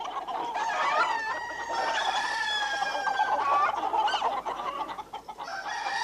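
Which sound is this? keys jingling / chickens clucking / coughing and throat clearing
chickens clucking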